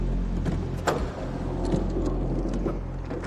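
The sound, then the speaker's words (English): A car engine rumbles steadily as the vehicle comes to rest in a loading garage of a factory complex, and a sharp mechanical clunk of the trunk latch releasing cuts through about a second in. No voices. “stops the car and pops the trunk.”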